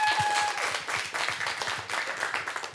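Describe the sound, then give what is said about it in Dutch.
An audience applauds the first group about to give their pitches, a dense wash of many hands clapping at a fairly even level throughout, with no voices standing out above it. “Geef ze alvast een groot applaus.”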